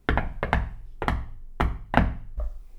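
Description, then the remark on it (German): Someone knocks on a shed door in an uneven, stuttering rhythm, mostly quick double raps, each with a solid wooden thump. Loud, with no voices. “Falsch geklopft, habe ich gerufen.”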